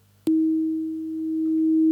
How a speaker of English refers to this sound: Did you hear it? It sounded like it was getting quieter in the middle and louder again, even though the amplitude of the waveform is constant, because it was just a single sine wave panned between the two channels. You don't perceive it that way.